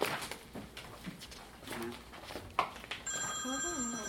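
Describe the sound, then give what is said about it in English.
A telephone rings during a Bible reading group, its bright, steady trilling tone starting partway through and continuing to the end, after a stretch of muffled background voices and rustling. “Oh, there's the phone.”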